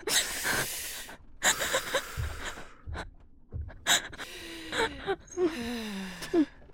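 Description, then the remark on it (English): Repeated deep, ragged gasping breaths, fairly loud, coming in uneven bursts with short pauses between them, some with a strained, wheezy edge. “Keep breathing like that for me, okay?”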